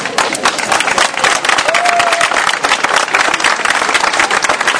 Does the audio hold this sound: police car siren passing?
no